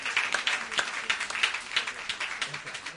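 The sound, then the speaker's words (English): Many people at a church service applaud together for a man, a dense, steady patter of many hands clapping for a few seconds, with no one speaking over it. “But I think we need to give him a big round of applause.”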